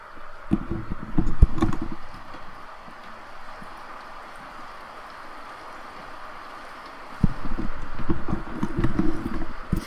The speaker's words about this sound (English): can you guys hear the rain picking up?